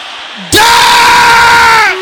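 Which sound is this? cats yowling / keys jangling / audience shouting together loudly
audience shouting together loudly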